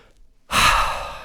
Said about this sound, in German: Ruhig einmal oder auch zweimal tief durchatmen. Reduziert deinen Stress, erhöht den Sauerstoffgehalt, verbessert dein Denkvermögen und macht es dir sehr viel leichter, mit dem Stress umzugehen.